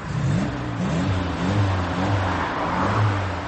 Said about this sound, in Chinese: 野腔无调的戏文压不住公路上载重卡车的隆隆声，卡车那巨大的身影让人感到有一种遮云蔽日的感觉，那威风凛凛的车轮声令人觉得脚下的公路也在地震般的颤抖，使路过的人无不小心避让。